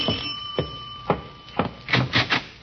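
doorbell ringing

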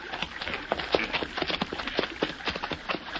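horse hooves clip-clopping

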